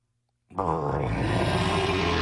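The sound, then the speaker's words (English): A person imitates a bear's growl for the Memphis Grizzlies: one sustained, rough, low rumbling roar that starts abruptly after a moment of silence and holds steady and loud for about two seconds. “Give me a growl.”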